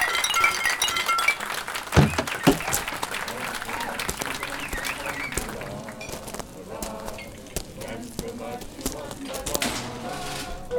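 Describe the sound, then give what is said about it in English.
Glasses clink together in a toast, a busy flurry of overlapping chinks and clatter, with a crowd of voices murmuring and cheering throughout. “Raise your glass and let's drink. Let's drink to my family.”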